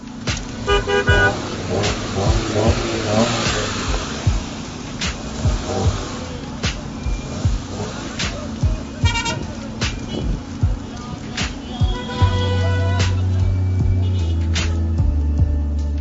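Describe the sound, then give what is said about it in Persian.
Busy city traffic on the way to Karaj, Iran, rumbles steadily while car horns honk repeatedly, mixing short toots with a few longer blasts, some loud, others fainter, with faint voices in the background. “میون دود و بوق رفتیم تا کرج.”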